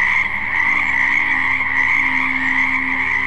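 A dense chorus of frogs croaking continuously, many overlapping calls forming a steady, loud drone with no pauses and no voices present. The frogs have come up over the land of Egypt.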